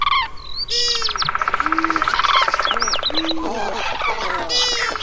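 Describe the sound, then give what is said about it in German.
Five bird species, candidates for Germany's Bird of the Year 2025, sing at once in a dense, busy chorus: clear whistles, rapid buzzy trills and quick repeated chirps all sounding together, fairly loud, with no pause for about five seconds. “Der Naturschutzbund NABU ruft zur Online-Abstimmung auf und schickt 5 Vogelkandidaten ins Rennen um den Titel. Die klingen so.”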